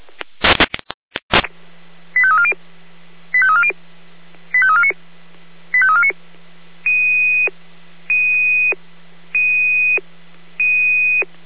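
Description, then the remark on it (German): Fire brigade radio pager alert tones for an H1 assistance call to a tree blocking the road at Birkenhain: a crackle of static, then four quick warbling tone sequences followed by four steady, evenly spaced beeps over a faint constant hum, with no talking. “da gibt es eine H1 Hilfeleistung, Baumsperre, Birkenhain, Anforderung. Alarm”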